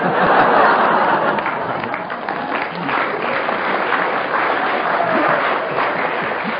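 Sustained audience applause, a dense steady wash of many hands clapping at even loudness throughout, with faint laughter mixed in.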